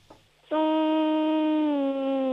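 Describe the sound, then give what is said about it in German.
A child hums a steady, loud buzzing drone to imitate a bee as part of a sound-imitation game, starting after a brief quiet moment and holding one nearly constant pitch for about two seconds. “Okay, und jetzt hätte ich gerne, dass du summst wie ein Bienchen.”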